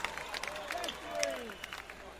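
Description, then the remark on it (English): An audience at a band's show applauds itself, clapping in a steady crackling patter, with excited shouts and whoops rising and falling over the applause. “There's a lot more of you than there are of us, so give yourselves a big hand, people.”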